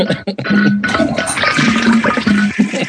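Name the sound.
toilet flushing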